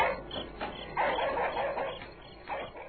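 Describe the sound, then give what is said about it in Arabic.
A group of stray dogs bark and yelp in overlapping bursts after dark, a fairly loud, continuous chorus with a few sharper barks standing out. No talking is heard. “سمع الأب أصوات الكلاب وهي تنبح وتصيح بأعلى أصواتها.”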